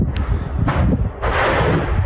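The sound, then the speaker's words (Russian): Heavy, rumbling explosions from ammunition detonating in Berdyansk, with a sharp crack followed by broad booming bursts that roll into a continuous roar, with no talking. “Вот это БК уже пошел.”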